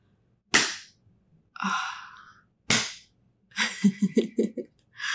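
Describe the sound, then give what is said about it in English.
Two sharp, loud slaps of a hand on a man's bare buttocks, about two seconds apart. Each is followed by a short breathy gasp or wordless vocal sound, the second one longer and wavering. “Look at how you jumped when I slapped it.”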